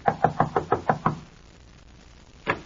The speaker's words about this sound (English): Knock on the door, Mark.